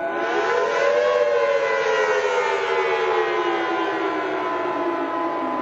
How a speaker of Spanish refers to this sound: Alarma, alarma de tsunami